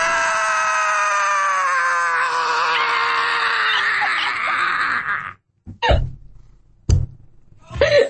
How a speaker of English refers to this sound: Give me your best. Give me your best. Scream helplessly at the sky. Come on, let me hear it.